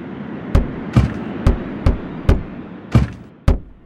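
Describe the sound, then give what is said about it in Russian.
Heavy, loud banging on a door at night, about eight hard blows in a slightly uneven rhythm, each one booming over a low background hum. “Я проснулся от грохота в дверь.”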